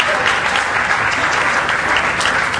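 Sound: audience applause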